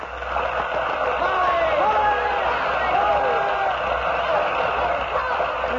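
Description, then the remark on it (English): A large theater audience roars with cheering and applause as the curtain lowers, a dense, steady wash of clapping and raised voices sustained at full volume for several seconds. “As the curtain lowered, the people stormed their approval.”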